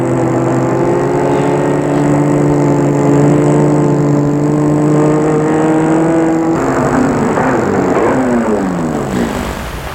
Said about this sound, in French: Il va arrêter sa voiture rue de Gerland.